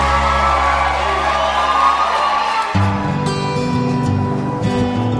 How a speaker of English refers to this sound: I'd like to ask all of the contestants to come up on stage right now, if you would. You should know that right now you're looking at the best of the best of everyone who tried out, and they deserve a big, big, big round of applause right now.